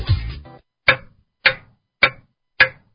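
A clock ticks four times in a slow, steady rhythm, each tick sharp, following a brief burst of noise at the start.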